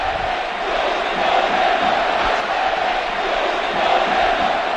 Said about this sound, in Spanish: El escudo no se toca, cantaba la afición del Atlético de Madrid, y no eran cuatro, ya lo decíamos antes, no eran cuatro, era prácticamente todo el estadio.